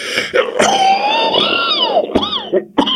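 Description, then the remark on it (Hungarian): A voice imitates a man's sudden choking coughing fit: strained, wheezing, rising-and-falling vocal gasps broken by several sharp, harsh cough bursts, fairly loud, with no other sounds around it. “És egyszerre fuldokló köhögést fogta el, vörös lett, mint a skarlátposztó.”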